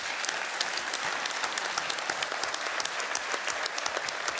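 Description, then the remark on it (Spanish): An audience applauds steadily throughout for the work of the director of the development and cohesion area, a dense, even patter of many hands clapping at once, fairly loud and with no one speaking over it. “y felicitarla por el trabajo y pedirle un fuerte aplauso para su gestión.”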